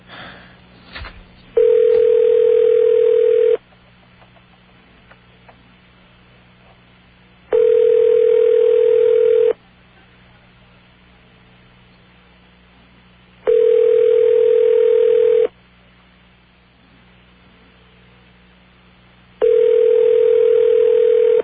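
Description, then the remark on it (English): A telephone ringback tone on a line to Long Island: four steady two-second bursts of a mid-pitched tone, evenly spaced by about four seconds of near silence, with no one speaking. “The sound of a phone ringing on Long Island.”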